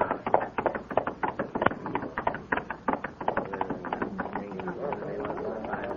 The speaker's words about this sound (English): There he is! There he is! Riding the horse!